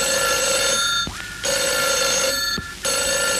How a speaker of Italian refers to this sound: Oh, mamma mia, non ci lasciano mai in pace questo telefono, poi. Pronto?